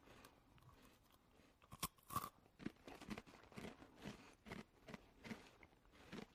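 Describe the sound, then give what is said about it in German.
Loud crunching as a puff pastry cheese stick is bitten and chewed, a rapid series of brittle cracks and crackles repeating in an uneven rhythm, with no talking. “Knuspert jedenfalls sehr laut.”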